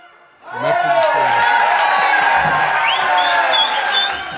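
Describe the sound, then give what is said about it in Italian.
A large audience bursts into loud, sustained applause and cheering after a brief quiet moment, with dense clapping and excited shouts and whoops rising from the crowd. “Non so se l'applauso era per voi o per noi che siamo riusciti a trovarlo in questo preciso istante del momento dove avete suonato, quando avete suonato.”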